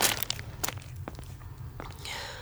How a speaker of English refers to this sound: Must be an echo. But I know the sound of my own feet and they're not my...